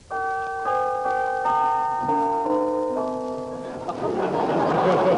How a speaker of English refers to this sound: Ring the bell, John.